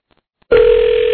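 After a moment of near silence, a telephone line begins ringing on an outgoing call from the Don and Mike show: a loud, steady electronic tone that starts abruptly and holds without a break. No one speaks.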